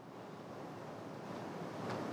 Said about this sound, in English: I'm not talking about, it sounded like it just rained a little bit ago. I had to stop and think, what's that noise?